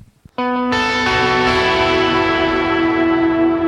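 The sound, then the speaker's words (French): A sustained synth pad swells in and holds steady, with a heavily pushed ping-pong delay bouncing left to right, a bright shimmer reverb and a second Ganymede reverb, the wash ringing out loud and unbroken to the end, with no voices. “J'ai un délai ping pong qui part à gauche à droite, ouais, voilà, qui est très poussé, et une autre réverb encore qui s'appelle la Ganymede.”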